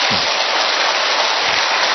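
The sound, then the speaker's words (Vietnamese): A church audience applauds steadily to encourage discouraged members, the dense clapping merging into a continuous hiss-like roar that holds at an even, fairly loud level throughout, with no voices standing out. “Tập vỗ một tràng pháo tay cho như anh chị em ấy lên tinh thần đi.”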